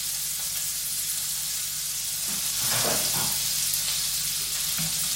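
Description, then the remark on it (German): Butter sizzling in a hot frying pan, a steady crackling hiss throughout with a few brief louder spits and pops midway, and no one speaking. “Nee, Butter bitte. In die Pfanne.”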